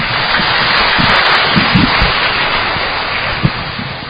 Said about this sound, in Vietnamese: Vâng, chúng ta một tràng pháo tay nữa để cảm ơn các em áo xanh.